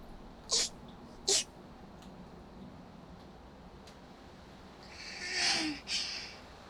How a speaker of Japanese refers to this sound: 別になんもないよ。ただ、ちょっと咳込んだだけ。